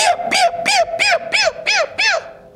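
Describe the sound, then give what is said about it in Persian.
A person's voice repeats a call used when giving grain to chickens or roosters six times in a steady rhythm. Each high, bright syllable rises and falls in pitch. It is loud, with no other sounds. “شما زمانی که میخواید به یه مرغ یا به یه خروس دون بدید چی میگید؟”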